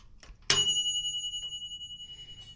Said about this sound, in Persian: صدای زنگ گاز در اومده. در قابلمه رو برمی‌دارم.